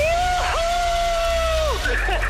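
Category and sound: crowd, cheering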